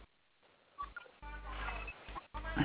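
Muffled rustling and low thumps of a phone being handled and passed to a subscriber during a customer service call about deducted call credits, heard over a narrow telephone line, in several short bursts with no talking.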